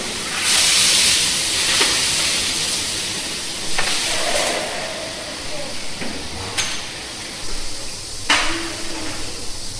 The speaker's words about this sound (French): Bruit de douche